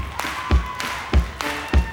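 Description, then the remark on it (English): An audience keeps a steady rhythm, clapping on the backbeat: low foot stomps alternating with sharp hand claps on the offbeat, about three cycles at a moderate tempo, with faint music or voices underneath. “so we're gonna teach you how to clap on the backbeat.”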